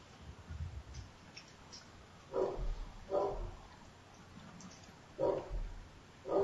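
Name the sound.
dog barking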